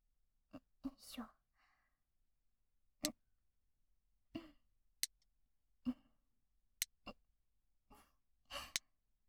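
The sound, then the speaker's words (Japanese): Nail clippers trimming someone's fingernails, here the middle finger: several crisp, sharp snips spaced irregularly over a few seconds, with soft whispering and breathy sounds between the cuts. “ほら、切り揃えると気持ちいいでしょ。”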